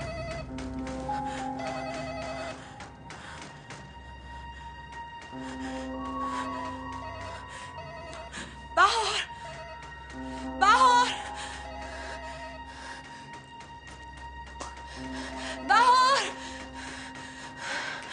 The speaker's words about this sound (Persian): من اینجا هستم، صدای زنگ در چیزی نیست.